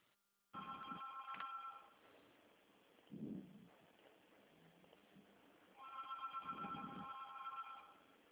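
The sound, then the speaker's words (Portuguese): A telephone rings in two shrill, warbling bursts separated by a pause of a few seconds. The ringing sounds thin and tinny, with a soft muffled thump in between and no talking. “Nossa, como toca o telefone aí, É porque como a gente está trabalhando assim, a gente manda, faz a ligação, né?”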